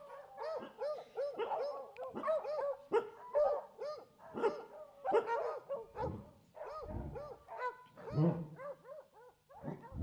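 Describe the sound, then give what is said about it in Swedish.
A police dog barks repeatedly and insistently, loud, in a steady run of sharp barks with occasional higher yips, no talking in between, so that its handler is guided to the hidden person during a test exercise. “Du hör hur hunden ger skall så att föraren ska vägledas till figuranten.”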